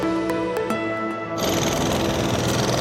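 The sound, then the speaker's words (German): A steady mechanical hum with faint clicking suddenly gives way to a loud, harsh roar of construction machinery: excavators and cranes working at a construction site in Baghdad, Iraq, where new housing complexes and hotels are going up and the Tigris riverside promenade is torn up. “Die irakische Hauptstadt Bagdad gleicht einer großen Baustelle.”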